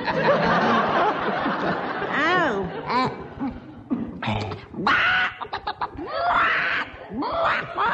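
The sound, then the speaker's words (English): A person imitates a hen's clucking after a mouthful of ale, with choppy, rising-and-falling vocal bursts, fairly loud, while other voices laugh and chatter around it. “Show them how you cluck when you've had a mouthful of ale, you silly old hen.”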